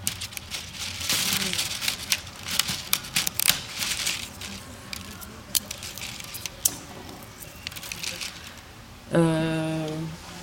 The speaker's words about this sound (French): Il y a les spaghettis aussi, qui font un peu bruit d'insecte des fois selon comment on les utilise.